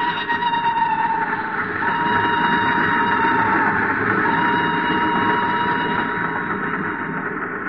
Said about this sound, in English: The train is going too fast.